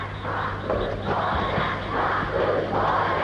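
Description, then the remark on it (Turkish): A dense crowd murmur of many students, a teacher's future students, a steady overlapping hum of voices with swelling waves, no single word standing out, sustained throughout at moderate loudness. “Bu uğultu ne?”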